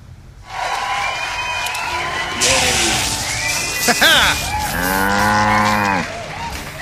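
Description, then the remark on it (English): A cow, Bessie Bovine, co-star on the show Midtown Cowboys, moos loudly, letting out two drawn-out, wavering bellows with a short bleating rise between them, over a steady background hiss and murmur. “Bessie Bovine, our co-star on Midtown Cowboys.”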